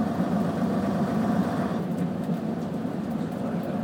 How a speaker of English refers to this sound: Very low revving engine.